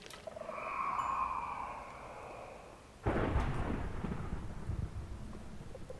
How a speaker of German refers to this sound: Und Donner hört man da.